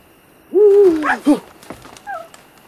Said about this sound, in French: Une chouette. Mon Dieu, est-ce qu'elle m'a effrayé?